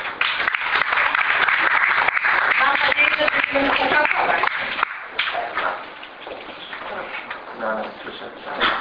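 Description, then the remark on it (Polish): Loud, dense audience applause for a woman being thanked rolls on steadily for about five seconds, then thins into softer, scattered clapping with faint murmuring voices underneath. “Szkoda, że nie podjęłaś decyzji o kandydowaniu w zbliżających się wyborach, ale tym bardziej miło będziemy Cię wspominać i myślę gorące brawa.”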